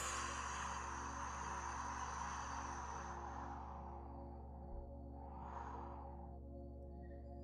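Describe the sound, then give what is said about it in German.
During a breathing exercise, after an inhale through the nose, a soft, breathy whoosh of air is gently exhaled through the mouth and slowly fades away, followed by a second gentle, shorter breath; quiet, with no talking. “Das ist wie, als ob du ja, Windgeräusche machst, so kann man sich das vorstellen.”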